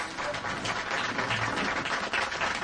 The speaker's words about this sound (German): Sie klatschen, wenn der Richter erscheint. Ganz wie bei einem Minnesänger oder Barden.